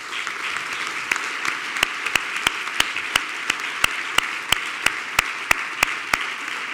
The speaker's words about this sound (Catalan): Així que com a alcalde vull dedicar-vos i que ens dediquem un fort aplaudiment a tota la societat novel·lense.